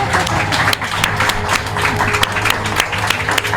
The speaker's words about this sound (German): Begrüße mit einem tosen Applaus. Achim von Borries.